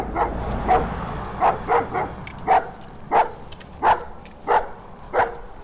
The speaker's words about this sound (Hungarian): Szép erős hangja van ennek a kutyának.